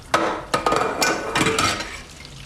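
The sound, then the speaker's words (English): Tap water runs steadily in a sink at an apartment while a man washes dishes, which clink and clatter in sharp, irregular knocks; no one speaks. “Now washing dishes at his apartment, with the water still running, he steps back.”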